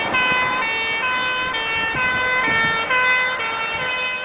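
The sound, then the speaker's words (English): A loud emergency siren on a Parisian street alternates between two pitches roughly every half second in a steady hi-lo pattern, with low street traffic rumble underneath, continuing throughout. “Apparently, the emergency Krolwich is located on a Parisian street.”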